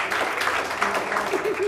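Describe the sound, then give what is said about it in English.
A crowd claps steadily in a dense, continuous wash of applause that holds at an even level throughout, with a voice faintly audible over it near the end. “We don't need your applause, thank you very much.”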